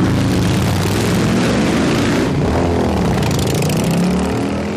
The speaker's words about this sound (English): I will hear a Harley-Davidson coming, and still in my brain, it triggers, oh, here comes a really powerful motorcycle. It must be going 100 miles an hour, and then the Harley-Davidson goes by at 20 miles an hour.